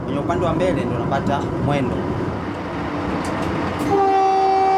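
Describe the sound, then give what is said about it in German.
An electrified SGR train in East Africa rumbles along the rails with a steady, loud low roar, then a sustained horn blast sounds near the end. Faint voices may be mixed in underneath. “Der elektrifizierte Zug SGR ist der modernste in Ostafrika.”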